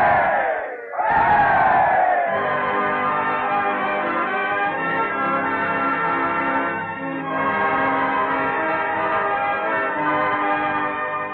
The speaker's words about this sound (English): 89 days from New York. It's a record, boys, a record. Let's give him the freedom of the city. Three rousing cheers. Hooray! Hooray!